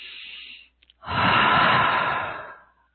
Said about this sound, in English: Let's do literally seven breathings, like breathing in through the nose and out through your mouth. Let's start together.